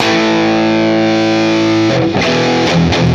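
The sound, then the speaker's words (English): An electric guitar through a Two-Rock amp with a touch of crunch: a sustained chord rings out, then a few quicker strummed chords follow, loud and slightly gritty with no one talking. “So if you profile a clean sound, you, like take my trusty two rock, that's a little bit of crunch on it.”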